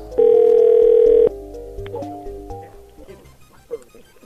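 A single loud, steady telephone ring tone of about a second, heard through the phone line while calling a cell phone, followed by quieter low rumbling and faint line noise.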